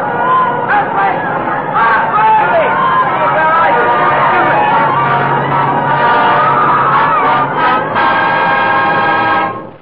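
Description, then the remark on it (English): A dense crowd of many voices outside screams and shouts at once during an earthquake as the floor shakes, loud and continuous for the whole stretch, with piercing high cries rising over the general uproar. “I could hear the crowds outside screaming.”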